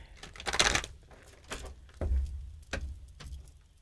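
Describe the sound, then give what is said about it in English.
A deck of cards is shuffled: a quick riffling flutter of cards, followed by several sharper taps and snaps as the deck is squared, with no talking. “Cards are shuffled.”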